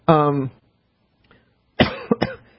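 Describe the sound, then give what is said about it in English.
A radio host on air makes a drawn-out voiced throat-clearing sound, a brief pause, then a quick cluster of three sharp, harsh, loud coughs. “trying to think of some other ones, when I don't cough to death.”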